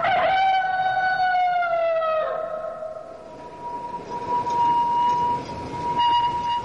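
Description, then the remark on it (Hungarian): The first tram goes by with a loud, drawn-out metallic whine that slides lower in pitch, then settles into a steady high tone over a continuous rumble. No one speaks. “Az első villamos. Hála Isten.”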